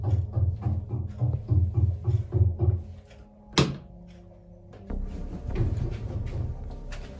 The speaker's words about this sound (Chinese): 十月二十一日，ヤマキュ录下了从厕所里传来的巨大敲击声。ヤマキュ说，如果把手放在厕所门上，甚至可以感受得到震动。